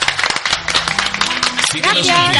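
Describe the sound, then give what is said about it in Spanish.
A TV studio audience breaks into steady, dense applause to welcome an archaeologist guest, many hands clapping at once, loud and continuous, with a voice calling out over the clapping toward the end. “Ella es, y os pido un fuerte aplauso para”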